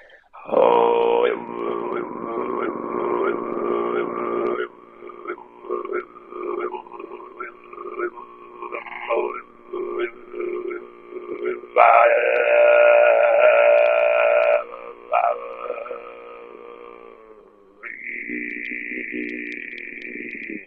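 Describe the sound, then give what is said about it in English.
Deep, raspy throat singing in the undertone style called harira, a growl buzzing like an Australian didgeridoo, held in long phrases with brief breaks and shifting tone, ending with a thin whistling overtone over the low drone. “It's growling. It's a little bit similar sound as like a Australian didgeridoo.”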